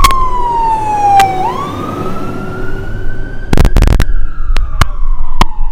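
A fire truck siren wails loudly as it passes, its pitch sliding down and then back up, with road rumble and a few sharp knocks or clatters near the end.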